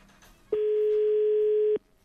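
A single steady telephone ringback tone sounds for just over a second, a loud, constant mid-pitched electronic hum with no talking over it, as a radio show's outgoing call rings a listener's second phone number.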